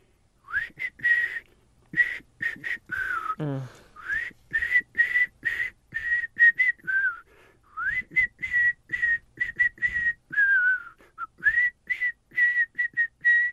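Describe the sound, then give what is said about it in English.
Someone whistles a song melody alone for the segment Someone Hums the Hits, in short, choppy phrases, holding mostly steady mid-high notes with occasional upward slides and dips, pausing briefly between bursts. “It's like a dying bird.”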